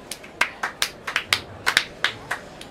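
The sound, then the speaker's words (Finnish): Scattered applause for a trio of presenters after their talk: a dozen or so crisp, separate hand claps in an uneven rhythm, sharp and bright, with no voices over them. “Heidän esitelmänsä aihehan oli kuivakkuus elämän asenteena, joten paikallaan on isokätiset aplodit hyväryhtiselle troikalle.”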